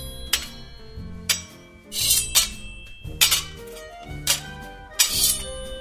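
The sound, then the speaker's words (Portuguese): Blades clash in a sword fight: about eight sharp metallic strikes at an uneven pace, each leaving a bright, high ringing tone that lingers briefly. No voices are heard. “Isso aí, pessoal, uma luta de espadas, né? Também muito presente nos filmes esse som.”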